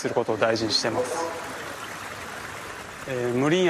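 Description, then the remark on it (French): A stream in a Japanese garden flows with a steady, soft rushing of water, heard alone in the middle and under a voice talking at the start and end. “Dans les jardins japonais, il y a presque toujours un ruisseau.”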